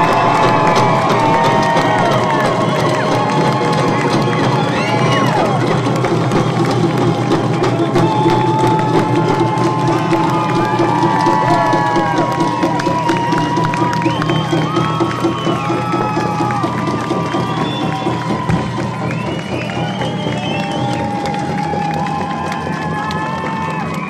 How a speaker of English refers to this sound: And I'm talking about Alexandra Morton, everybody. Please, let's hear a round of applause.